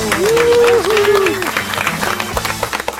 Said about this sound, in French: Merci, merci pour ces applaudissements spontanés.